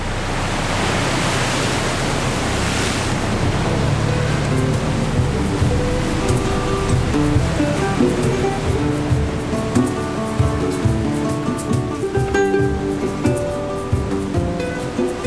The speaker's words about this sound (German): Der synkopische Rhythmus von Mindelo verklingt im Klatschen der Wellen, die vom Bug der täglichen Fähre durchschnitten werden, die die beiden Inseln verbindet. Die Seereise dauert eine knappe Stunde und führt in eine andere Welt.